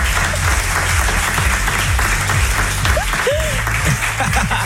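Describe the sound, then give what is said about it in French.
A room full of people claps steadily and loudly for several seconds, a dense, even wash of applause with a few brief voices or whoops rising over it. “Est-ce qu'on peut applaudir Paulette pour c'est rassurant pour le non-bébé?”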